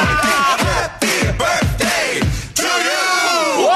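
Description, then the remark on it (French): A studio audience on a radio show erupts in loud cheering, whoops and yells rising over a dense wash of applause, swelling in a few quick surges before carrying on steadily to the end. “Attends, les applaudissements, ils arrivent.”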